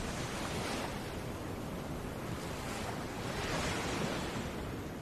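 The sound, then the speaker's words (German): Sea waves wash gently onto the shore, coming and going in a steady, soft surf roar, with slow swells rising and fading and a light breeze blowing across the microphone. No voices are present. “Und höre das Rauschen der Wellen, wie sie sanft kommen und gehen.”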